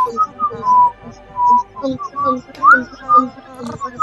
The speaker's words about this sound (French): Non mais tu siffles faux